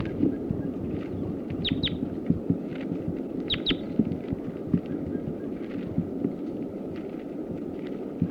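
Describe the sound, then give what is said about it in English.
A small bird, a red male that was just captured, gives two short bursts of thin, high chirps, a second or two apart, over a constant low rumbling background with faint throbbing noise. “So recording, that's the male that was just captured, the sitkansas. That's him.”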